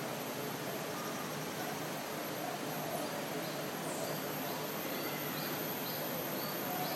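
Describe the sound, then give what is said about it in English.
A dense, steady outdoor drone of cicadas fills the air without pause, with a few faint, brief bird chirps surfacing now and then in the background. “Sound of the nice insects, the cicadas, the birds.”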